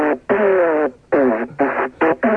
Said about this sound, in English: I got a didgeridoo. Hurrah! All right, okay, we asked for a didgeridoo, and you've obliged.